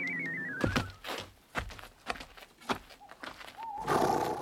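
A horse whinnies at the start with a high, wavering call that falls in pitch. Several dull thumps like stamping hooves follow, then a softer, shorter call near the end. No one speaks.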